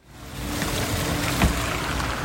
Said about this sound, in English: Luxury German cars pulling away from the entrance of the elegant Bayer-Ischerhof Hotel here in Munich as this conference comes to a close. It's snowing and there's a chill in the air.